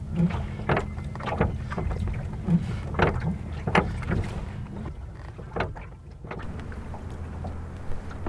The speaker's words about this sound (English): I'm rowing towards a bell buoy, and I'm just starting to hear the bell.